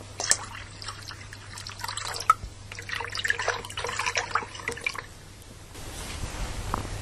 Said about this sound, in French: Au bord d'une rivière